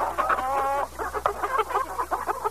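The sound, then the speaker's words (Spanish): A turkey clucks calmly, starting with a short drawn-out warbling call and then a steady run of soft, quick clucks, with no one talking. “Este es un pavo tranquilo.”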